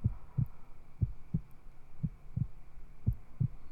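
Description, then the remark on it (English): A human heartbeat heard up close, steady lub-dub pairs thumping low and soft, about four beats in a few seconds, with a faint hum underneath and no talking. “I used to love listening to my heartbeat.”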